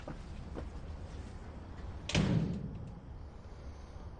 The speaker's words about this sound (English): close the door.